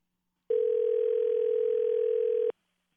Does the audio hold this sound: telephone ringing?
yes